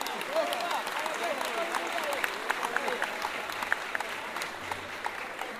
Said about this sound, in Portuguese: Quem é que tá vindo pela primeira vez na Samba da Vela? Então um aplauso para quem tá vindo pela primeira vez. Oba!